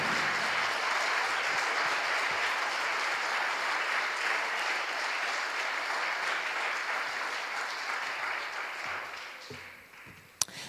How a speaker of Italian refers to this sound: prenditi ancora un applauso, prenditelo tutto.